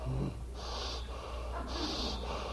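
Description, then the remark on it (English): A voice demonstrates the shallow, constricted gasping breaths of someone focused on guilt, two quick strained inhales with a hissy, tight quality, with a low hum underneath. “It closes down almost to where you're not breathing. Have you noticed? You're so focused on this guilt that the breath comes like this.”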